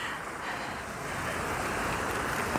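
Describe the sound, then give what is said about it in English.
A steady, continuous rush of the Allander Water river flowing under a bridge, a broad hissing wash with no pauses and no voices, even in loudness throughout. “So I've now come to a bridge that crosses the Allander Water.”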